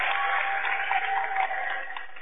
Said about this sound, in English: they get a big round of applause from the Freeman fans, as well as a few Auburn fans up here applauding.